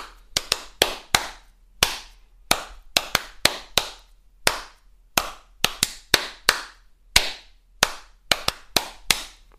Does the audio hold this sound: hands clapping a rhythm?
yes